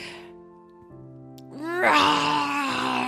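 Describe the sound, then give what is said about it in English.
A person's voice imitates a bear roar: a low, drawn-out groan that rises in pitch and swells into a loud, rough, wailing bellow lasting a couple of seconds. “He lets out one of those big, wild, grizzly roars.”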